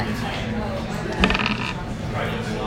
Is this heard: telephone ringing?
no